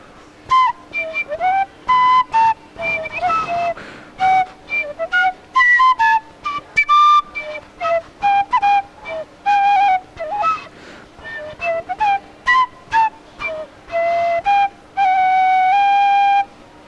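Someone whistles a lively student-song melody alone, a quick run of short bright notes that rise and fall, ending on one long steady held tone.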